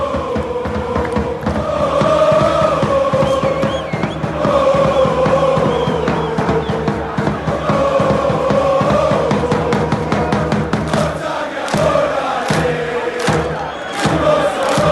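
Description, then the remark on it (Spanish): A large crowd of football fans in the Curva Azul stand at the Diego Armando Maradona stadium chants in unison during a Serie A match, a loud, sustained sung chorus with rhythmic swells, continuing steadily for the whole stretch amid stadium noise. “No sé si un efecto de la transmisión, pero a mí me pareció escuchar mucho más fuerte los coros de la Curva Azul, como este, ¿no?”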